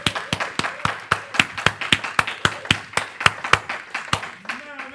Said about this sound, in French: Alléluia! Est-ce qu'on peut applaudir pour Jésus-Christ?